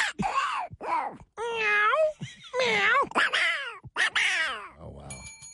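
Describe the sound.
A person's voice mimics a cat, producing a run of six or seven loud meows and yowls with rising and falling pitch, one after another in quick succession, ending in a brief rough sputter.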